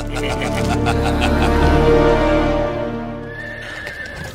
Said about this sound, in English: You are the finest horse I've ever ridden, Abacus. I feel like a rich man on your back.